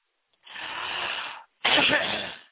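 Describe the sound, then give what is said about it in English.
A person coughs on request after taking deep breaths: two long, harsh bursts of forced coughing or hacking exhalation, the second slightly louder, with a short gap between them and no talking. “Now, I'm going to call those things to go out, and I want you to just cough for me, okay? Take some deep breaths and cough them out.”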